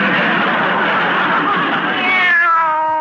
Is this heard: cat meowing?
yes